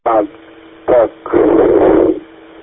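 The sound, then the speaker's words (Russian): Radio interference during an amateur radio exchange: two short garbled, tinny bursts like a distorted voice breaking up over a transceiver, then nearly a second of harsh static hiss, fairly loud before cutting out. “Какие-то помехи возникают, я, к сожалению, не все принял”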